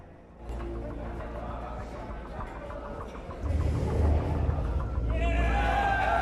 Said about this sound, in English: In the hold of the destroyer, a cheer goes up when the men hear the ship's engine start.